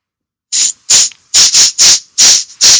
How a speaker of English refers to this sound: I would sniff, but my nose is so clogged that I can't really return your sniff in a meaningful fashion. It's a little hard.